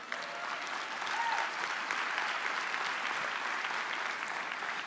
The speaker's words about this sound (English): All the girls are clapping.